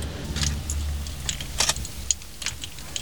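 A car engine hums low and steady while irregular metallic clicks and rattles clatter over it, a few louder bursts standing out. No one speaks.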